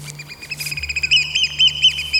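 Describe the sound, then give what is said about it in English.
An oystercatcher, a black-and-white bird with a big red beak, flies in the sky giving a rapid series of loud, shrill piping calls, continuous, over a steady low hum in the background. “It's the oyster catcher, or in Dutch, the schoolekster.”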